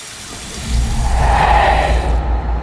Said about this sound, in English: He turns on the wash basin tap and bends to take a swig of water.